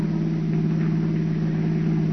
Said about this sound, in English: Listen to that motor purr